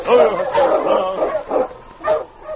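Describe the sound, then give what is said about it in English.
The husky King whimpers and yips in a string of uneasy, plaintive cries with a few short bark-like bursts, fairly loud, with no other sounds around it. “Sensing death, the mighty husky was uneasy. Sergeant Preston noticed his plaintive whimpering.”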